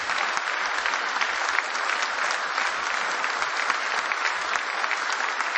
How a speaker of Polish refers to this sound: Panie ministrze, proszę o wręczenie medalu. Niech te brawa trwają, szanowni państwo.